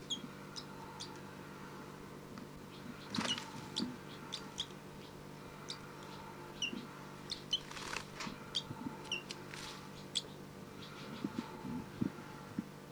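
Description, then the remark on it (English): A young bird, Bird 302, gives short, high-pitched begging calls from 5-9 in irregular bursts, with a few louder, harsher squawks, over a steady low hum. No one speaks. “This is Bird 302 begging from 5-9.”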